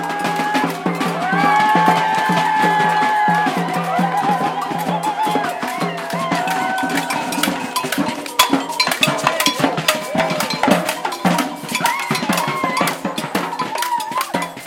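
Dense, driving batucada percussion with sharp repeated hits and a clanking cowbell, played by a batucada group moving through a park toward a group of police, while the crowd following it shouts, jumps and dances. Sustained high tones ring out in the first few seconds.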